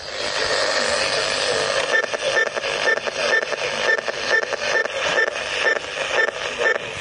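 Radio hiss and static interrupted by a rapid series of short, high-pitched beeps, pulsing at a steady rhythm, caused by pressing buttons on a remote control held on top of the radio.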